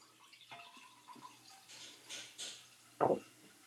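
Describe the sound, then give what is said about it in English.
More wine is poured into a glass for another drink in a few soft gurgling splashes, ending in a short, louder slosh of liquid. No one speaks. “Now I gotta pour another one.”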